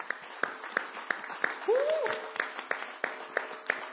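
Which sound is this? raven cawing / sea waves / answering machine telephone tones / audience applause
audience applause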